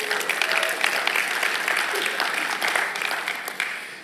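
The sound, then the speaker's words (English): An audience claps steadily for about four seconds at an announcement that the west driveway is now open, a dense wash of many overlapping hand claps at fairly even loudness, with no voices standing out. “A lot more people complained about not having it than just clapped.”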